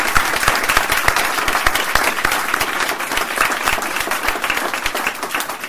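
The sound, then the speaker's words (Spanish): An audience at an inauguration applauds an absent chorister of Las Panchoneras, many hands clapping in a dense, continuous patter that holds at an even loudness for several seconds, with no voices over it. “que bien has dicho, Pedro Torrebeci, que hoy no se encuentra entre nosotros, pero creo que se merece un aplauso por parte de todos y espero que le llegue.”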